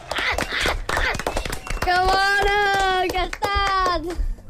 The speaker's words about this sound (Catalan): Un aplaudiment.